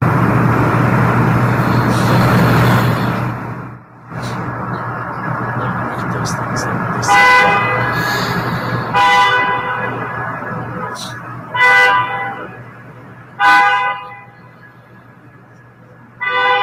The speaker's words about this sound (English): The cars are programmed to beep whenever another car reversed close to them, causing disturbance in the neighborhood.